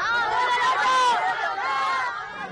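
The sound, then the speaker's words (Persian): Many children's voices chatter and shout over one another in a loud, continuous babble of overlapping excited talk. “خیلی خوب بچه ها، یکم آرومتر.”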